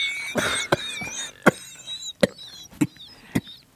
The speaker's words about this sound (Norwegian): Så du blir veldig flink til å hoste? Ja, det er man ren fysisk. Ja. Ja. Altså, du må drive oss og fremkalle hosting.